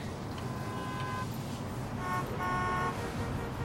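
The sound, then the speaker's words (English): Car horns honk in two sustained blasts over a steady rumble of road traffic, the second blast a little louder and overlapping another horn. “I'm in traffic on my way home”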